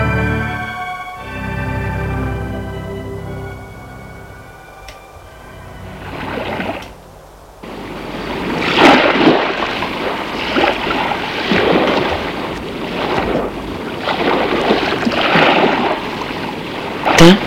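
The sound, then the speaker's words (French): A low, steady humming tone opens, then sea waves take over: loud, repeated surging washes of surf that swell and break in an uneven rhythm, with no voices. “Ils se lèvent, ils se laissent bercer par le bruit de la mer.”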